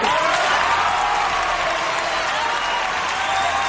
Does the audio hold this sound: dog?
no